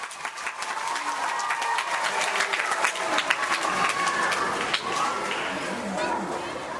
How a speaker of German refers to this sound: Etwas später, als es dann wirklich losgeht, machen die drei ihre Vorstellung sehr gut. Gestern haben sie mit der Lehrerin noch geübt, in ganzen Sätzen zu antworten. Jetzt gilt ihnen der Applaus und sie strahlen.